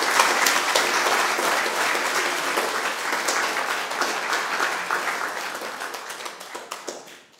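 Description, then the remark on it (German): A large crowd at a church service claps steadily for several seconds for a nativity play, a dense wash of many hands at fairly even loudness that gradually thins and fades out at the end. “Also dafür dürft ihr auch gerne mal klatschen.”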